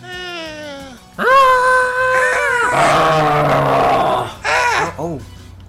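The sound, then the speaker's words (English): A video game growl sound effect: a wavering, cat-like howl swells into a loud, raspy roar lasting a few seconds, then ends with two short, sharp yelps. “I'm sorry, that was more of a growl.”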